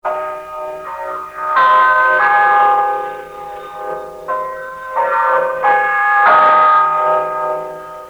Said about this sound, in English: Check your time with the LM chime. It is exactly 12 noon.